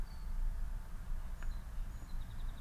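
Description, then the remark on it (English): Birds sing outdoors after rain, with the sun out: thin high whistles, then a quick run of repeated chirps near the end, over a steady low rumble of outdoor background noise. No one speaks. “And I'm not sure if it's entirely past yet, but from my angle, the sun's out and the clouds seem to be behind me. So the birds are singing.”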